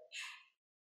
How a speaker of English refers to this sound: Bless you.